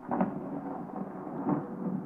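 Distant thunder rolls in a low, steady rumble, swelling briefly near the start and again toward the end, with no voices present.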